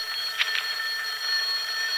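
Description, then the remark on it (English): An old-fashioned telephone bell rings continuously, a bright metallic ringing with a slight warble that carries on without pause. The ring is steady, and nobody speaks. “It's the phone”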